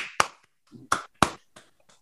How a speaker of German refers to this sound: Ich klatsche immer vorher. Echt? Du klatschst vorher? Ja, um also mir selbst Beifall zu zollen.